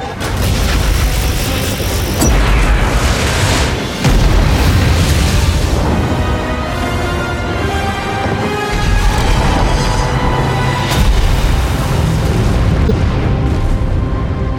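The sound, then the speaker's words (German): Artillery fire from the Legion and explosions roar without a break during the last battle for Argus, deep booms layered over a dense, loud rumble, with sharp bursts cracking through around the two-, four- and eleven-second marks. No one speaks. “Die Legion wird bald wieder feuern.”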